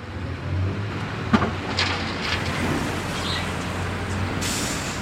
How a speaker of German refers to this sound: Ein Lastwagen leert eine Ladung voll Schutt auf einen Haufen.